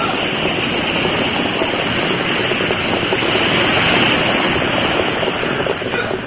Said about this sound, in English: the flood rushed by. Hungry waves broke at the very feet of the horses.